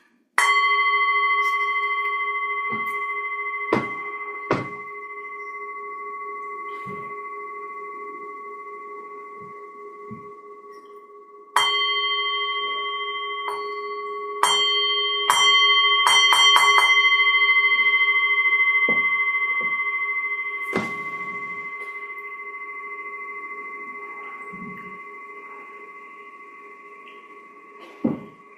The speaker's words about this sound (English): And warmly aware of sounds. The sound of this bell.